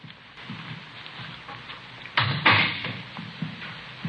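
Over a steady hiss of rain, a door opens midway through: a sharp latch clunk, then a brief creaking swing, fairly loud. No one speaks.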